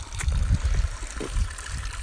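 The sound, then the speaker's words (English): Water runs steadily from a tap, a continuous trickle and splash with a soft, bubbling texture throughout. “So I'm feeling a bit of that good air and good water, and here it is again, this fantastic tap.”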